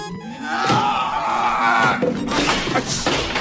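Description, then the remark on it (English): A stolen artwork of the Madonna is dropped and hits the floor with a loud crash, followed by further knocks and clatter as it settles, over a busy background. “No, you dropped it again!”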